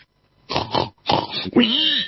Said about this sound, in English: oink to you. I mean, we've heard enough of that.